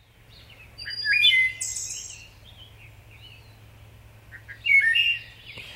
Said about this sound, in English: You're hearing the song of the wood thrush. It's a migratory bird that makes it home throughout North America, and many of those birds breed here in Wisconsin.